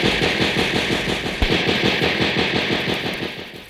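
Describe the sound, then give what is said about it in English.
Rapid, continuous bursts of gunfire from America's new anti-aircraft guns hammer away in a steady rhythm, loud, with a booming low thud near the middle and no voices. “Right, in America's new anti-aircraft guns.”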